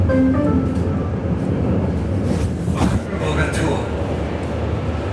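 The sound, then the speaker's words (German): Inside a moving S-Bahn commuter train in Berlin, travelling to another district of the city: a loud, steady low rumble and rattle fill the whole stretch, with a brief squeal midway and indistinct voices murmuring in the background. “Ein paar Minuten später sitzen wir in der S-Bahn.”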